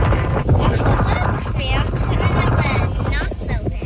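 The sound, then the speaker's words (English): Heavy wind roars and buffets against a phone microphone while filming a video right after a zip line ride, a constant loud rumble that nearly drowns out voices talking underneath. “I pulled out my phone and videoed her reaction. And it's very windy, but you could kind of hear it in her.”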